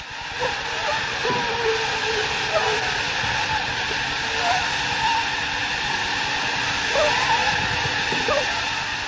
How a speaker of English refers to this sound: The mosquitoes you just heard carry malaria. They're in a container at the research laboratory of the Swiss Tropical Institute in Basel.